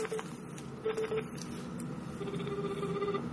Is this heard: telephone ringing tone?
yes